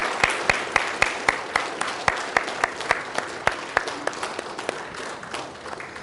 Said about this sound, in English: And if the rest of us would stand and just recognize the moms we have this morning. That's a lot of moms. Let's give our moms this morning a round of applause.